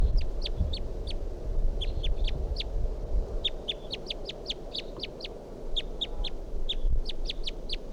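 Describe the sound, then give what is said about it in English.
A wild bird perched in a pine tree repeats short, sharp, high-pitched calls in quick uneven bursts over a steady low background rumble. No one speaks. “So recording that bird again.”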